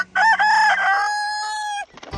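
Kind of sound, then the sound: bird, rooster crowing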